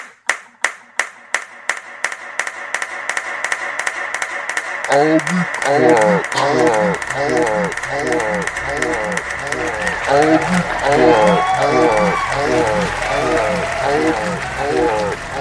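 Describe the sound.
Steady, evenly spaced hand claps ring out alone at first, then keep a regular beat beneath loud, busy voices that join in and carry on over the clapping.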